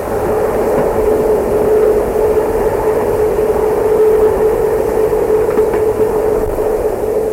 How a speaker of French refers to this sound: Puis, il entend le bruit sourd du train. Il n'en finit pas. De rouler.